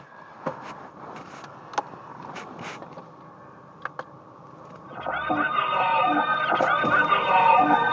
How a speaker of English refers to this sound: There's like a carnival or something, and there's like mad traffic. Like, but people are rude. Like, they keep beeping at each other.